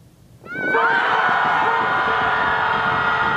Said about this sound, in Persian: از کدام راه؟ از راه داد زدن، فریاد زنی گروهی.